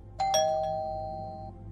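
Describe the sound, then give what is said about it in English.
A doorbell at the front door of a house, rung by Reverend Jones, chimes twice in quick succession, its bright ringing tones sustaining and slowly fading over about a second, with no one speaking. “Her breath hitched when he rang the doorbell.”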